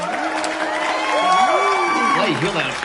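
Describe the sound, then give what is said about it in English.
A crowd cheers loudly and steadily, many voices whooping and shouting together over a wash of clapping that carries on for the full few seconds. “Wow, you hear that applause?”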